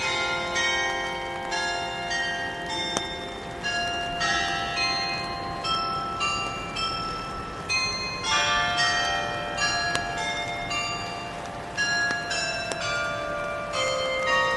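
The town hall bells in Norrköping play a slow melody, bright ringing tones struck one after another and overlapping as each note lingers and fades. The chiming is steady and fairly loud, with no talking.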